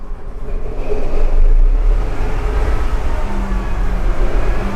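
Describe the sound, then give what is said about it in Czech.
A big diesel locomotive engine is started from its front cab after the circuit breakers are switched on and the diesel pump primes the fuel circuit; it roars to life, its loud, deep rumble swelling over the first second and then settling into a steady, heavy idle, with no voices. “Prošli jsme zpátky do kabiny přední. Připravíme druhý stanoviště. A je tady start.”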